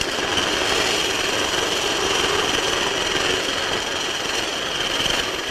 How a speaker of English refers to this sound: I think the helicopter is getting ready to go up now.